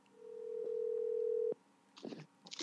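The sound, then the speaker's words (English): A single steady telephone ring tone sounds for over a second as a call to a bass fishing guest on the show Low Budget Live connects, then cuts off abruptly before a voice briefly starts speaking. “Ladies and gentlemen, we're going to try to get him on the phone right now.”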